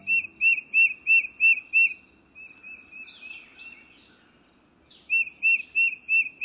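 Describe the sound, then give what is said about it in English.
A tufted titmouse sings a clear, rhythmic whistled phrase repeated about six times, pauses amid softer background bird chatter, then starts the same ringing series again, loud; a typical song of woodlands in the eastern U.S. “This rhythmic whistled song is a quintessential sound of woodlands in the eastern U.S.”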